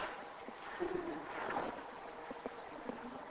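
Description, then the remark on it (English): A voice imitates sprinkling water with a soft, breathy hiss lasting a few seconds, with faint spattering ticks scattered through it, fairly quiet and steady, with no words spoken. “You know what sprinkling is like, you know, just a...”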